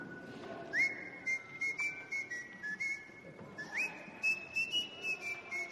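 A person whistles a simple, steady song melody in two sustained phrases, clear, with soft background noise and faint rhythmic tapping underneath.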